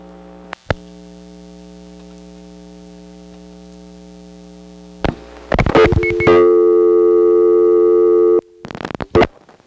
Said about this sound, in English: So this call does go through good old Atlanta 2. And 20 seconds after the destination number hangs up, we of course will get a dial tone from the line the call diverter is using to make the call.